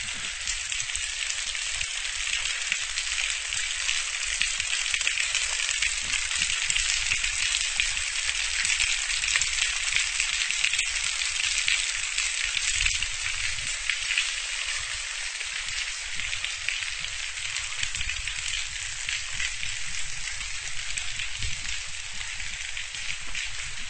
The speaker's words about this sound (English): 10:55, I'm at Pack Rat Falls. Might even be able to hear the echo. A little bit of water running in the falls. I'll let you listen to that for a second.